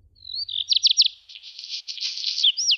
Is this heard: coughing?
no